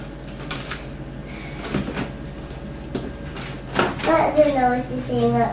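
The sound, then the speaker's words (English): A noisy door rattles and clunks through several uneven knocks and scrapes, with a steady background hum. A child's high voice starts talking over the last few seconds. “That door of thing. Yeah, it is noisy, isn't it?”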